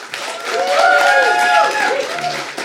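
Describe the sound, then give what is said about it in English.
An audience breaks into sustained applause for a couple of seconds to back one side in a debate, the dense clapping mixed with loud whoops and cheering voices that rise and fall over it. “I'd like you to applaud now.”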